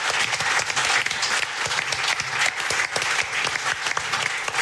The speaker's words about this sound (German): Applaus für unsere Gästin.